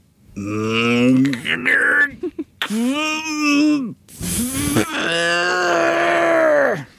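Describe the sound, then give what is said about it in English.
A voice actor, voicing the grunts of the character Bumblebee in a read-aloud of a comic script, lets out loud, drawn-out groans and short grunts in three or four strained bursts, the pitch wavering and sliding, with brief breaths between and no actual words spoken. “We really needed to break up Bumblebee's lines between words spoken and grunts uttered.”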